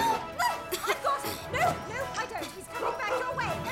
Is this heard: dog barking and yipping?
yes